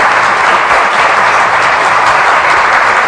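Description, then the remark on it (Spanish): Steady, loud applause from many hands fills the whole moment, a dense continuous clatter of clapping with no pauses and no voices rising above it. “Y vamos a felicitarlas como se merecen, con un aplausito, venga, va.”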